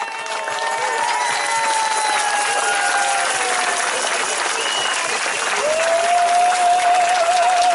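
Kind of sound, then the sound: crowd, crowd applause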